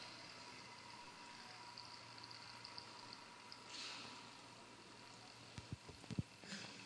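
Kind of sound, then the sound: household object, water draining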